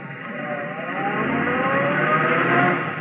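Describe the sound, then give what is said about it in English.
A car engine rumbles and rises as the vehicle pulls away on a street to follow a taxi, a steady, fairly loud drone that builds slightly over a few seconds with no voices. “And we went riding. It wasn't a long ride.”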